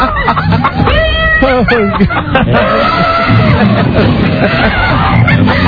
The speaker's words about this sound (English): Now they've been forced to hire animals. Kitties and chickens.